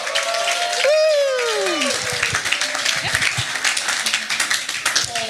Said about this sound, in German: Gebt ihr einen Applaus.